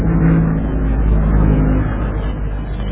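An aeroplane drones overhead, a loud, continuous low engine rumble with steady humming tones that holds evenly for the whole stretch, with no voices.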